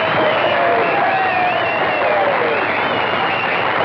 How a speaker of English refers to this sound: Kids stand and applaud wildly.